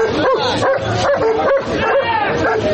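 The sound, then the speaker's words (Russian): Police service dogs bark and yip repeatedly in a dense, agitated burst, loud, as riot police (OMON) lead detained people to police vans during the dispersal of a rally of Alexei Navalny's supporters in Russia, with busy crowd noise and voices mixed underneath. “Людей пытаются доставлять в автозаки при сопровождении служебных собак.”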